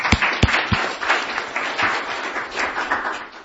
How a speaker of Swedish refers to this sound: Tak så hemskt mycket. En applåd for Claus præsentation.